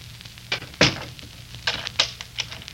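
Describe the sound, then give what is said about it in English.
A door shuts with a solid thunk near the start, followed by a few softer knocks and clicks scattered over a quiet, low hum. No one speaks. “Close the door, English.”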